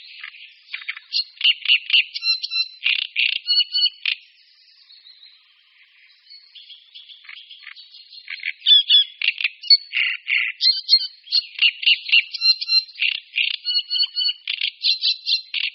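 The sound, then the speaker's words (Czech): A great reed warbler sings a harsh, grating song of rapidly repeated croaking and squeaky phrases, briefly quieter and softer midway before resuming loud, rhythmic churring bursts. “Rákosník velký, jako všichni naši rákosníci, je druhem tažným a již začátkem srpna a v září odlétá na zimoviště, která se nalézají v Africe jižně od Sahary až po Kapsko.”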